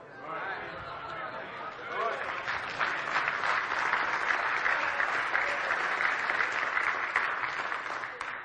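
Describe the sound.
An audience bursts into applause, building within a couple of seconds into a steady, dense wash of clapping that holds loud until the end, with a few voices audible at the start.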